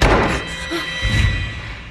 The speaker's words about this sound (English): The man wearing the fedora enters the front door. He slams it, which startles Ruby.